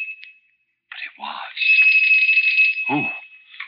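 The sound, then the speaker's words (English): An electric doorbell rings with a brief buzz, then a long, steady, shrill ring of about two seconds, loud, with breathy, hissing noise and a low thump around it. “The doorbell.”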